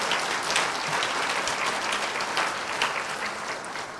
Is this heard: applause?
yes